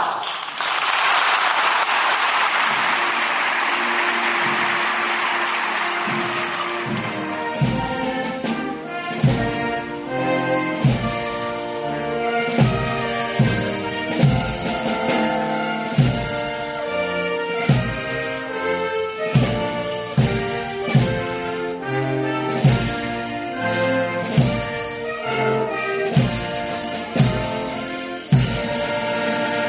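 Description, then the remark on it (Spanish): The whole Spanish parliament in the Cortes Generales bursts into sustained, dense applause for several seconds after the heir to the crown swears the oath to the Constitution, which then gives way to loud rhythmic music with steady beats and held tonal notes. “Histórico el que hemos escuchado aquí en Herrera en COPE Tenerife, el aplauso ahora de todo el arco parlamentario.”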